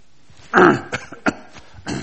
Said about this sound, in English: I think I'm driving the kids at school crazy, clearing my throat 50 times during the class.